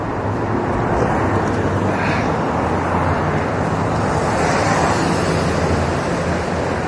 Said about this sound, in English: Cars are so loud. Why are they so loud? It shouldn't be allowed.